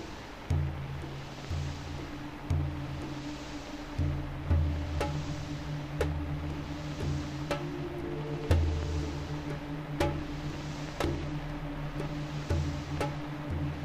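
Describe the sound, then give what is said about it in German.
Soft, sharp percussive clicks tap out a sparse, steady rhythm over a sustained low synth pad, with a hissy, gently pulsing noise layer washing underneath. No voices. “Und jetzt packen wir noch einen subtilen Percussion-Rhythmus dazu.”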